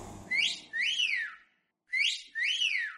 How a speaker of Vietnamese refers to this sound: Vừa ủi, ông vừa huýt sáo nghêu ngao ra vẻ vui tươi chẳng có gì làm ầm ĩ.